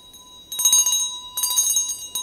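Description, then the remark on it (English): A bell rings in front of a microphone in three bright, jangling bursts separated by short pauses, loud and shimmering, with faint steady high tones humming underneath and no talking. “It's ringing in front of the mic.”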